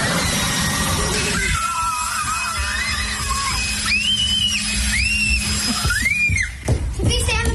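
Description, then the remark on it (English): A homemade flamethrower made from a leaf blower with silk, rubber bands and tape, being tested, roars with a steady, loud whooshing rush throughout, while excited high-pitched shrieks and shouts rise and fall over the noise several times. “This is a flamethrower. We made it out of silk, rubber bands, and tape, and a leaf blower.”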